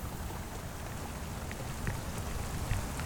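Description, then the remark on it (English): A steady, dense hiss of heavy rain pouring down after switching from a trickle to a downpour, with occasional sharper drops splattering. The downpour stays constant throughout and no one speaks. “And then, just as he was putting a few of the last brush strokes on the wall, the rain switched from a trickle to a downpour.”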